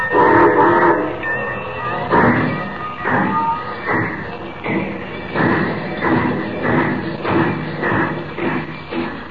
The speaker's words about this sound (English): Unknown to Superman, the train carrying the cargo of gold and Jimmy Olsen starts on its trip an hour earlier.